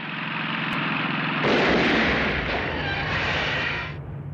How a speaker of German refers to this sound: Das bittere Ende, als die beiden Underdogs von zwei Rednecks in einem Pickup nur so zum Spaß von ihren Maschinen geschossen werden.